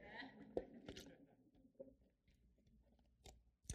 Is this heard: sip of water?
yes